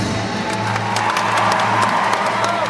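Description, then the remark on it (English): A large ballet audience, a packed house, applauds steadily after a classic Tchaikovsky pas de deux, demanding another curtain call. Dense, continuous clapping, while scattered cheers and shouts rise above it. The sound stays loud and sustained throughout, with no speech. “The crowd demanded another curtain call.”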